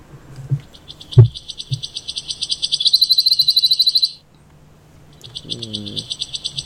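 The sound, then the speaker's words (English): A wood warbler sings an accelerating trill of high, rapid notes that speeds into a shivering, buzzy flourish, then pauses and starts again, heard clearly outdoors with no one talking. “Can we hear the noise again? The now that we know it's a wood warbler.”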